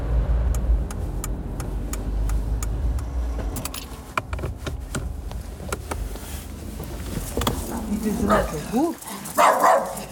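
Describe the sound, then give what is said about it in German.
Theo the dog barks several times in quick bursts toward the end, in front of a terraced house in Weil im Dorf on the edge of Stuttgart, Germany, after a stretch of low engine rumble, scattered clicks and faint background voices. “Vor einem dieser Reihenhäuser empfangen uns Theo der Hund”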